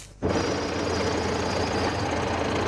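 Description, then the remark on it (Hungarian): Heavy diesel tractor engines idle with a steady, loud rumble and rapid knocking pulse at a farmers' protest in Bratislava, Slovakia, outside the European Commission representation building, starting abruptly after a brief quiet moment and continuing without pause. “Traktorokkal, teherautókkal és élő állatokkal demonstráltak a gazdák a szlovák fővárosban.”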